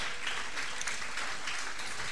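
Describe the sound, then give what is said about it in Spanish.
An audience applauds steadily for Christ, a dense, continuous patter of many hands clapping at an even volume with no individual claps standing out and no one speaking. “Bueno, de un fuerte aplauso a Cristo, amén.”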